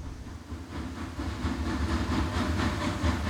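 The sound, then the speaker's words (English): A train sound effect rumbles steadily along with a rhythmic clickety-clack of wheels on rails, a continuous mid-loud rolling sound with repeating clacks and a faint hiss, no voices. “Come join me on the Media Center train as we see what's in store for you. All aboard!”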